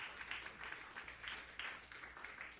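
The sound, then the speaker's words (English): A church audience claps together as a hand clap of praise to God, a steady wash of applause, many hands overlapping with bright, crackly bursts that swell and ease in waves, no voices standing out. “Let's give God a great hand clap of praise for the Word tonight.”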